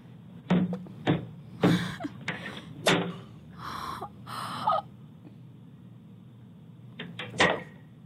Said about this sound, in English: So apparently in Texas, somewhere in Texas, there's a little white boy. There's a video on like a Ring cam of him at this black family's door, and he has a whip, and he's whipping the door.